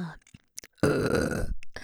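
A single long, loud belch, rumbling for most of a second after a few faint clicks and breaths, then trailing off into soft breathy noise.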